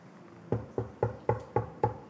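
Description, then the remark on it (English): A quick, even series of about seven firm knocks on a door, fairly loud, starting after a brief quiet moment with no voices. “Knock.”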